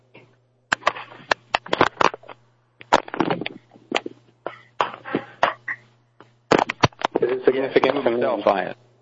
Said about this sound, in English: Stop clicking the phone